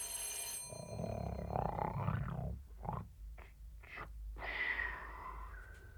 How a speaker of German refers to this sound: Psst. Hört ihr, was ich höre? Er schläft noch und schnarcht.